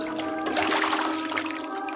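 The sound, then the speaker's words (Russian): Water splashes and churns continuously for a couple of seconds as someone dives into the sea, a steady, fairly loud watery rush over a faint tonal hum, with no one speaking. “Айда, пошли! Ныряй, поплаваем!”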